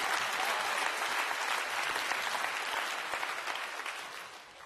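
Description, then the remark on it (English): A large audience claps steadily and enthusiastically for God, a dense wash of applause that holds for several seconds and eases slightly toward the end, with no voices standing out. “And yet, come on, why don't you give God a clap?”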